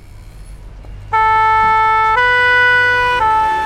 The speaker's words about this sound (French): Les pompiers passent dans la rue à toute vitesse. Et Folio n'a jamais vu de camion de pompiers. Oh, il fait mal aux oreilles, ce gros camion rouge.